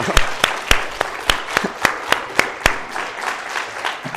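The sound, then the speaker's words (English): Audience applause for their pastor, with a steady beat of sharp, loud claps standing out over a softer wash of scattered clapping. The clapping continues without voices. “So since he's going to be listening to this message, can we give him a round of applause for how much we appreciate him?”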